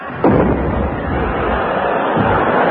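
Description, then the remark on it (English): A cannon fires a shell with a sudden, loud boom, followed by a long roaring rumble that swells again briefly near the end. “And now we come to lot three, one cannon shell.”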